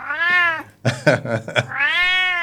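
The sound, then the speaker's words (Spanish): A cat meows loudly: a long, drawn-out wail, then a few harsh, scratchy yowls in quick succession, ending with another sustained, rising-and-falling meow. “Maullando, ¿sí?”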